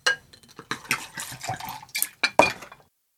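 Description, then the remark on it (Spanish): Busy clinking and clattering of plates and cutlery as waiters and servants set the last plates for dinner on two long tables in a large dining hall, a quick irregular series of sharp knocks and rattles over a few seconds, with no voices. “Camareros y sirvientes van poniendo los últimos platos.”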